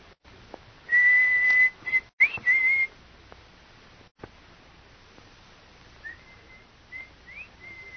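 A person blows a signal whistle, a sustained steady tone for about two seconds, then a short rising flourish; after a pause, a fainter whistle answers with a few brief notes and slides.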